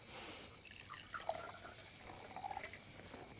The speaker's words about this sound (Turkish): Meryem küçük tüpün üzerindeki çaydanlıktan oturduğu yerde çayı dolduruyor.